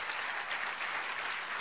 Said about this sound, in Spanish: Dale un aplauso al Señor. Amén, dale fuerte aplauso.